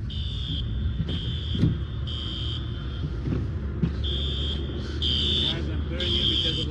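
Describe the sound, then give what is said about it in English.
Car alarms, triggered by a rare tornado with winds of 138 to 177 km/h in a suburb of Los Angeles, California, blare in rhythmic bursts of high-pitched beeping, pausing briefly between cycles, over a constant heavy rumble of wind and storm noise. “The sound of car alarms triggered by the intense storm was captured by a weather tracker”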